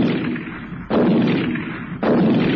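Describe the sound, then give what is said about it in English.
Three loud shotgun blasts fired at night at a bird rising over trees, each a sharp booming crack followed by a rolling, fading rumble, spaced roughly a second apart with no voices. “he was clutching the late lamented Spike's shotgun.”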